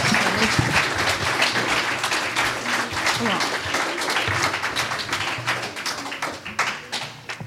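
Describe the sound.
Sustained applause from a crowd for young performers about to present an audio drama called Dragon Boy, dense overlapping claps forming a steady, loud wash for several seconds, with some murmuring voices mixed in beneath.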